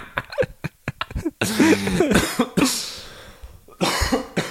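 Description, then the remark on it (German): A string of several sharp, loud coughs, some with a throaty rasp, breaking into bursts with short pauses between them; no one is talking. “Also, Husten ging akustisch, auch, ja, genau.”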